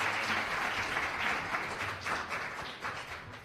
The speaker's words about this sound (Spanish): Muchísimas gracias a los dos por haber estado hoy. Con gracias nosotros. Yo creo que se merecen un aplauso los dos, ¿no? Muchísimas gracias.